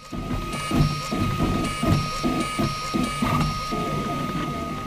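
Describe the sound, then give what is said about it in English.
A 3D printer runs, its stepper motors whirring in short rhythmic bursts of rising and falling pitch over a steady mechanical hum. “Now, if you've come across a 3D printer before, I'm guessing it was similar to my experience.”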